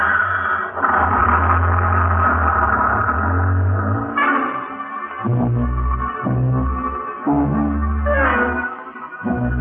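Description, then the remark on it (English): Ackerman's small sightseeing bus, driven away by Colonel Lucius Porteous: its engine rumbles loudly, the low throbbing note rising and dropping as it revs and shifts gears while pulling away. No one speaks. “Honey and I stand there like a couple of outfielders watching one sail over the fence while Colonel Lucius Porteous drives away in Ackerman's dinky little sightseeing bus.”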